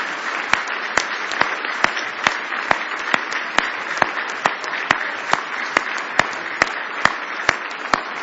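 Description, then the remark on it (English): A church audience claps their hands in praise of the Lord on a Sunday morning: a dense wash of scattered applause with sharp, unified claps landing in a steady rhythm about twice a second. No one speaks. “Why don't you give the Lord a big hand clap of praise this morning?”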